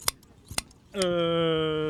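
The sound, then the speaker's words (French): Large scissors snip through fleece twice during shearing, crisp, with a brief pause between the cuts. A steady, droning tone then takes over and fills the rest of the moment. “C'est des gros ciseaux, hein.”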